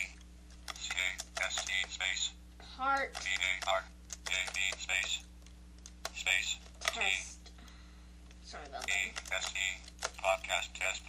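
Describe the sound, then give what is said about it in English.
Rapid keystrokes on a computer keyboard, typing a file name while creating a new file, come in quick clattering bursts, pausing briefly between runs while a voice speaks a few short words in the gaps, over a steady low hum. “I will hit C to create a file, and let's call it podcast. Oops, my keyboard's going crazy.”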